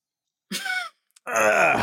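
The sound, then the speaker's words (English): Two wordless vocal grunts made on request as B-roll: a short strained one, then after a brief pause a longer, louder, groan-like grunt with a rough, throaty tone. “Give me some B-roll grunts.”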